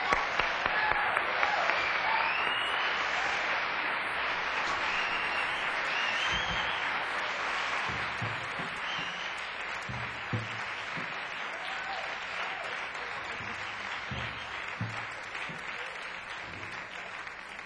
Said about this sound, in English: Let's not fool around, shall we? Let's get it off with a great big round of applause for Columbia Records recording artist